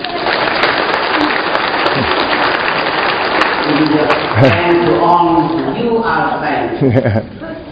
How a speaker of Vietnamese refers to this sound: Rồi chúng ta xin chào mừng tất cả những vị thánh ấy bằng một tràng pháo tay.